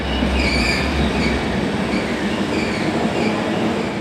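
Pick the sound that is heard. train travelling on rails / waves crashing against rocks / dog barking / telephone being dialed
train travelling on rails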